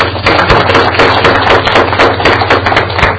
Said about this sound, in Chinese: 今天晚上第一次见面，好，我们给他们一个掌声，好吧？